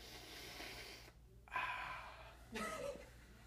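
Three loud, breathy sniffs, each a drawn-in rush of air lasting about half a second to a second, with short pauses between them. No one talks.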